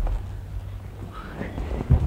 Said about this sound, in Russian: Я слышу шаги. Я без нее жить не могу. Ведь даже звук ее шагов прекрасен.